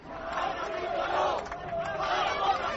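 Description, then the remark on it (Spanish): A large crowd chants the protest slogan "Zaragoza sí, Agapito no" in unison at a rally calling for Real Zaragoza football club to be democratized, a loud, steady roar of many voices with rhythmic rises and falls in the middle range, continuing throughout. “Ese grito de Zaragoza sí, Agapito no, esperemos que este sea el último año que se escuche ese grito, ¿no?”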